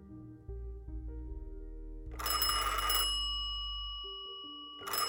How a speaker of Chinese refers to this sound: 哈利被电话铃声吵醒